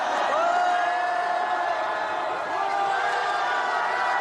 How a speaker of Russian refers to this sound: «Мы казнили Людовика. Можем сделать это и с Макроном», скандирует толпа перед Национальной ассамблеей в Париже.